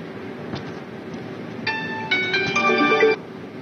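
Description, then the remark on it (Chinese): The ringtone of a 5G smartphone on China Mobile's network in Beijing, for an incoming call from a staff member, starts partway in, with bright stacked electronic tones in short melodic phrases that grow louder over a low background hum, then cuts off abruptly. “那么现在呢就由我们的工作人员向这部手机拨打一个电话，我们来一起接通。”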